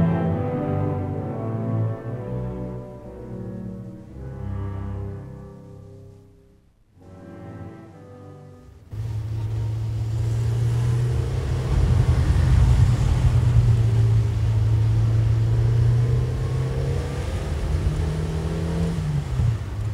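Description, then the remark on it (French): A tonal passage gives way after several seconds to an old grocery delivery truck's engine running loudly, a steady, rough low rumble with a slight rise in pitch near the end, in a remote village about 100 kilometres from the capital. No one speaks. “Oh là là, ce foutu camion, il va nous lâcher un de ces jours.”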